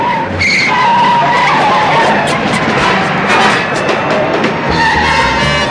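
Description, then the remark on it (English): A looters' car and a pursuing police car race down a concrete ramp at high speed back onto city streets, with loud, continuous engine roar and screeching, skidding tires, intense throughout, with no voices. “Both cars now head down the ramp and the pursuit continues back on the city streets.”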